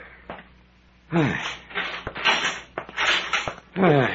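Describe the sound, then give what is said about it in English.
A heavy cell door on a landing is hauled open: a quiet pause, then loud creaking and scraping in several rough bursts, ending with a sharp rising creak. “Hey, there's a cell on this landing.”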